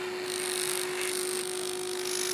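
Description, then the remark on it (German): A dental drill drilling a tooth whines steadily at a high pitch, continuous for a couple of seconds, with a sharp constant tone and a broad hiss beneath it. “Bis jetzt haben Sie ja immer noch nicht gebohrt. Aber jetzt.”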